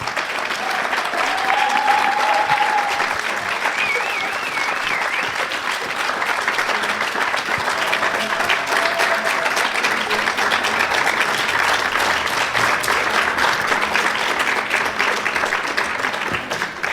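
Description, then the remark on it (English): An audience applauds steadily for the full length, a dense, even wash of many hands clapping at constant loudness, with a faint whistle or two rising briefly above it. “A big round of applause to our guests, please.”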